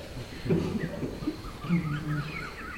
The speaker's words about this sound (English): That's a partridge.